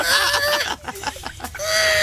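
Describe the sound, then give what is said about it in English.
A car door creaks open with a cartoonish squeal as someone gets out of the car: a long, high, wavering whine, a stretch of broken stuttering squeaks, then another drawn-out squeal. No talking. “He has a door which sounds like a cartoon car breaking.”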